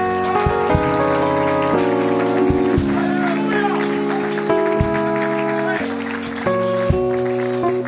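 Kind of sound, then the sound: crowd, audience clapping hands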